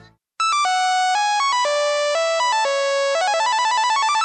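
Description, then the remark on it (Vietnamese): A phone's text message notification ringtone plays loudly and alone, a quick run of bright synthetic beeping tones that ends in a rapid repeating burst of notes. “Lại là tiếng chuông tin nhắn”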